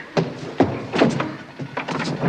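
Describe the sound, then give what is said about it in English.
A series of sharp, hard raps on a door made by knocking with a pinky ring, metal striking wood, about seven or eight knocks in an uneven rhythm, some in quick pairs, with no voices. “He's knocking with his pinky ring.”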